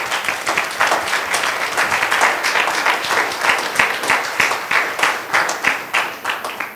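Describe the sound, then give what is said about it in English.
A steady round of applause from a church audience welcoming new members into the fellowship, many hands clapping densely and continuously at a fairly even loudness for several seconds, with no talking. “Why don't we just give them a round of applause?”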